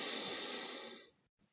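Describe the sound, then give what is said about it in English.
A slow, deep breath drawn in while counting to five in a balanced-breathing exercise, a steady airy rush lasting about a second before tapering off into near silence, with no talking. “So just breathing in, sort of counting to 5, for example.”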